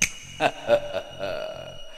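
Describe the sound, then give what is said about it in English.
A few sharp finger snaps crack out in quick, slightly uneven succession, moderately loud, with a faint hum underneath and no talking. “Snap my fingers, you'll all be eating a juicy pear.”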